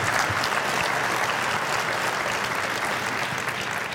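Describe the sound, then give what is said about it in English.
An audience claps steadily for several seconds, a dense, even wash of many hands with no voices on top and no rise or fall in loudness. “Now you're not, yeah, you can clap. Go ahead.”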